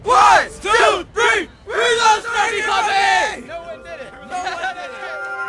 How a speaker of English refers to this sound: On three, everybody yell, "We love …!"